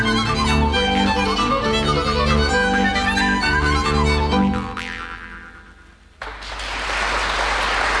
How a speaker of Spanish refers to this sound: El aplauso para esta banda … y el …, que nos traen música de Navidad y también folclórica, porque tiene esos sonidos muy especiales del folclore checo.